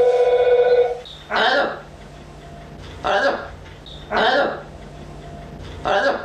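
A telephone rings in short repeated bursts about every second or two, clear, after a brief steady electronic tone at the start, interrupting a spoken story.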